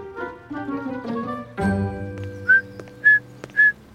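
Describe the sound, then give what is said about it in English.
A person whistles three short, bright, rising chirps in an even rhythm, mimicking birdsong like a sparrow. Tonal music plays before them and continues softly underneath. “Perfect time for a little bird song.”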